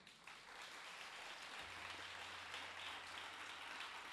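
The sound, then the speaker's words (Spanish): An audience applauds steadily, a dense crackling wash of many hands clapping that holds an even level for about four seconds, with a low hum joining partway through. “Venga, un aplauso.”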